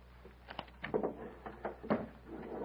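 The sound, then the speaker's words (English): The door of a windowless private chamber is pushed shut in a few short wooden clunks and clicks, with a louder thud near the end as it latches. Moderately quiet, with no voices. “Close the door, Foltar.”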